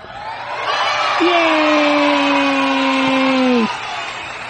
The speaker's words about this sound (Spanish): Y aplausos, por favor.